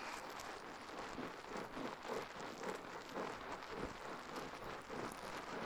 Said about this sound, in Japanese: 泡がはじける音、とっても癒されますよね。